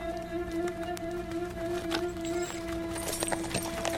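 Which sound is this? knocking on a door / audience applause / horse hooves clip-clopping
horse hooves clip-clopping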